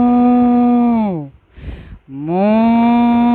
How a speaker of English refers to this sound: Moo! The herd of cows, enjoying the sweet and fresh grass after a long time, had seen the lion coming towards them, saying, 1, 2, 3, they had all mooed loudly all together.